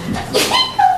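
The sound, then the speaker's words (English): A single sharp sneeze bursts out, a short breathy explosion of noise followed by a brief voiced tail, moderately loud. “Bless you. Bless you.”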